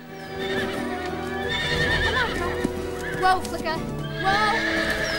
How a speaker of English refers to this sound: Katie opens the gate and Flicker gallops out, the herd of horses following alongside.